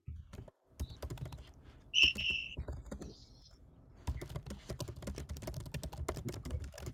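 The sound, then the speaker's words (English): Rapid clicking of a computer keyboard being typed on, heard over a microphone, with a brief pause in the middle and a short high-pitched electronic tone partway through. “Yeah, we just hear the keyboard.”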